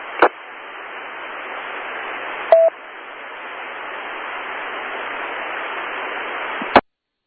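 Steady telephone-line hiss as a phone call is dialed and connects, with sharp clicks at the start, a brief beep-like tone midway, and a final click as the line cuts off; no one speaks.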